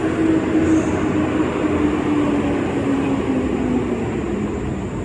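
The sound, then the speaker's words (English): A big garbage truck rumbles in and parks about 50 feet away in the Citadel, with a loud, steady diesel drone and a low whine that sags slightly in pitch as it settles, with no one talking. “there comes a big old garbage truck”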